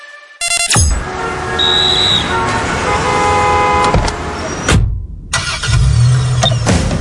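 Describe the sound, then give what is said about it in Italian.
An Opel Corsa car engine rumbles loudly amid city traffic, with a short horn toot early on; the noise briefly drops out before the engine roar returns. “Faccio sorridere anche nel traffico cittadino?”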